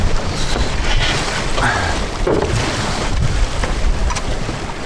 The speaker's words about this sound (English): It's ocean-like out here. Great. What a day. What a day. All right. 15 knot breeze. 2 foot swell. We're heeled over about 20 degrees. We've got quite a bit of sail up. So we're probably kicking down about 6 knots.